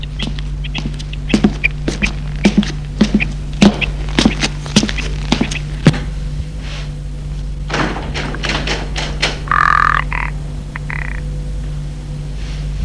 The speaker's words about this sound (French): D'où loin une porte qui s'est ouverte, des pas sur le gravier.